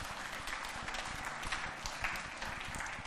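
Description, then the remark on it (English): An audience breaks into steady applause, many hands clapping in a dense, continuous patter that holds at an even level for a few seconds with no one speaking over it. “And I was very, yes, you can clap.”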